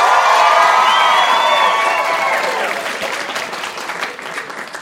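An audience bursts into loud, dense applause with cheers and whoops mixed in, holding strong for a couple of seconds before gradually thinning out into scattered clapping.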